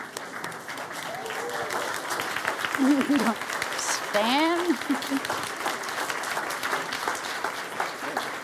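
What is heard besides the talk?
audience applause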